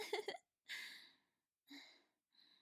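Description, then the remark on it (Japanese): A short, voiced burp, followed by three breathy exhales separated by brief pauses, each fading out, with the last one quieter. “やっぱりゲップするの気持ちいい。”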